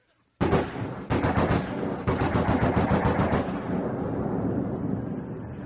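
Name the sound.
machine gun firing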